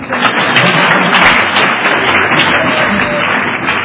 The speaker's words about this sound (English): I attended your Cornhusker convention a couple of summers ago, and came away from there incredibly impressed with the kind of recovery you have here in Omaha. You can clap about that. That's good.